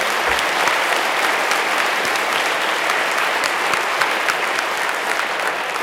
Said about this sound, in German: Ja, Applaus bitte.